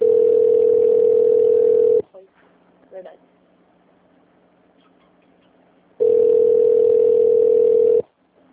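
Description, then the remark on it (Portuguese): A telephone ringback tone as a call connects from an automated phone menu to an extension, sounding twice, each steady, loud two-second burst at a fixed mid pitch, separated by about four seconds of near silence with a faint click. “Conectando.”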